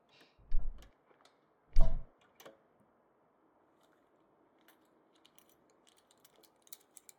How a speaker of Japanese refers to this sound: 鍵ちゃんと閉めましたね。忘れてませんよ。